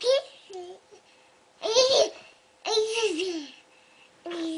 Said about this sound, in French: Un petit babillement, un petit gazouillis de bébé. Je crois qu'il est français, mais je ne suis même pas sûre.